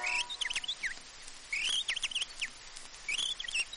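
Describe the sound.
Someone imitates a warbler's song, whistling quick, trilling chirps in three bright, fluttering bursts separated by short pauses, clear with no talking.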